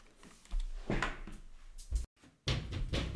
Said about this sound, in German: Dafür muss ich mal, du hörst jetzt einfach mal, wie ich hier mit meinem Stuhl durch die Gegend räume, weil ich habe vergessen, wie das Buch heißt.